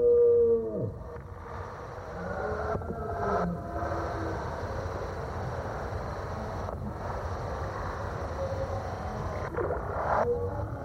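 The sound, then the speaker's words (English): A drawn-out roaring deer call rises and lingers, blurred by a thick, hazy wash of echo that fills the whole stretch with a steady, moaning roar. “And particularly, I think that sound of the roaring deer is one of those sounds.”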